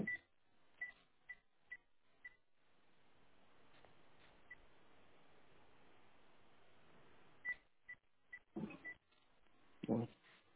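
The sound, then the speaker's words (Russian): Short keypad tones beep as a phone number is dialed to call the caller's own mobile phone: a quick series of about six evenly spaced presses, a pause with low background murmur, then a few more tones and a muffled thump. “Я вот себе на телефон звоню.”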